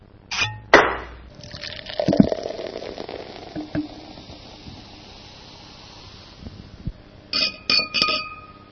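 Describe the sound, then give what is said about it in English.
Glasses clink together in a toast celebrating a one-year anniversary, with a couple of bright ringing chimes at the start and a quick series of clinks near the end, separated by a stretch of soft fizzing hiss. “join us in celebrating the one-year anniversary of the Linux Link Tech Show. Cheers!”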